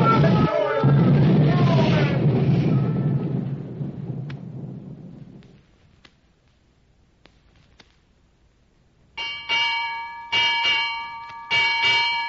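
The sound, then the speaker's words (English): A heavy, roaring rumble like crashing water fades to near silence, then a ship's bell rings out six bells clearly, struck in quick pairs with a bright, lingering metallic tone. “Six bells and all's well.”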